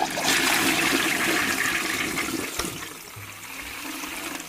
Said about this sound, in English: And also, mind you, I'm gonna flush Hitler down the toilet.